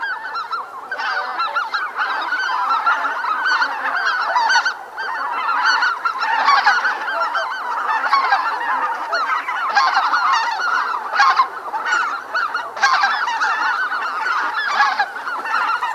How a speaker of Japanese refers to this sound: やかもちはふるさとに帰るガンの鳴き合う声を聞き、ふるさとの奈良の都を思い出していたのかもしれません。